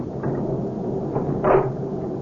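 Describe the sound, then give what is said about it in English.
A door swings shut with a soft thud, then a brief metallic clack as it is locked, over a steady hiss of background noise. “Honey, will you get the door closed and locked?”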